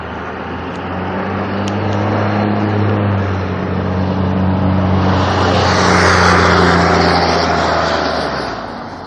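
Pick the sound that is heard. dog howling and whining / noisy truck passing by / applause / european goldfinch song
noisy truck passing by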